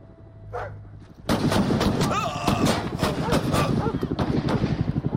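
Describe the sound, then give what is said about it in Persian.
A sudden burst of loud gunfire erupts after a quieter start, with rapid repeated shots cracking over a chaotic, noisy background and some shouting voices. “تیراندازی شده، تکرار میکنم تیراندازی شده.”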